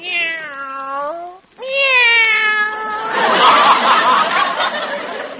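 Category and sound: animal, cats meowing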